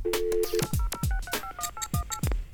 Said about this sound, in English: Ooh, exciting, and we got DTMF tones as well.